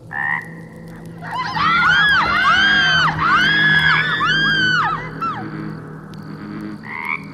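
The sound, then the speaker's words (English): Loud, layered bullfrog croaks repeat in quick rising-and-falling bursts for several seconds, with a steady low drone underneath. Shorter calls appear at the very start and end. “A bullfrog chose that exact moment to croak, earning delighted screams from my sister and friends.”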